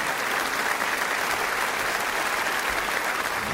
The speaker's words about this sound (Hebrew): אז כפיים חברים, בואו נתחיל, כפיים חברים.